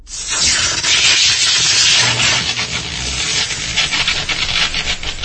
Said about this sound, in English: The door mechanism is cratered from one of Jazz's slugs, and the static arcs of electricity jump from it as it sizzles.